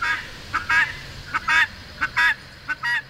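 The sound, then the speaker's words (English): A guinea fowl hen calls repeatedly in a harsh, two-part rhythm, a short note followed by a longer nasal cry, four times in quick succession, against a quiet outdoor background, under the bushes in a neighbor's yard. “Finally, we spot the elusive guinea in a neighbor's yard.”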